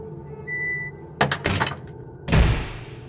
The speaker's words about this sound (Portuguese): E como ele não respondeu, o vizinho entrou e o herói fechou as portas.